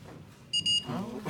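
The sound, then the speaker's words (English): Two quick high-pitched electronic chimes from a phone alert, a ringtone or text message, sound briefly over a low background murmur during a class, followed by the start of a voice speaking. “sounds like someone's phone ringing, or it's a text message.”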